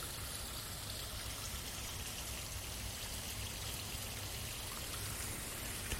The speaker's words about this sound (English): So I'm surrounded by indigenous ferns. I'm surrounded by the plants that should be all over Sydney before they replace them with European plants. Oh, listen to the sound of that water.